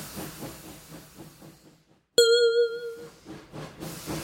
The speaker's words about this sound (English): Here's the train, Mickey. Good. I like trains.